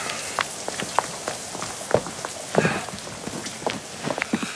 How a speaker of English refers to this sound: Come, let us escape the infernal downpour.